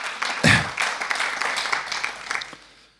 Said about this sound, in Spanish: ¿Cuántos le dan palmas a Cristo? Gloria a Dios.